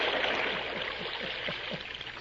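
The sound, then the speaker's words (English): A steady, fairly loud rush of water pours continuously into a well to drown a masked man in a Lone Ranger radio drama, with a faint, regular gurgling pulse underneath and no voices. “It is a shame to drown a man with a mask on. Turn the water into the well.”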